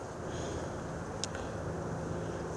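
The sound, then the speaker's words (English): A gentle breeze hisses softly and steadily through trees over a low rumble, with one brief high chirp partway through. No one speaks. “You can just about hear it whispering through the trees.”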